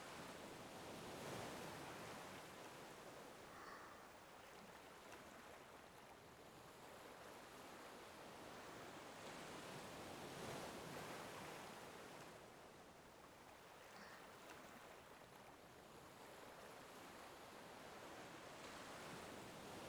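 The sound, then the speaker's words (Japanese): Ocean waves wash steadily onto the shore, a broad hissing surf that swells and recedes in slow cycles about every ten seconds, continuous, with no voices. “せっかくここにいるんだから、海の方見なさいよ。”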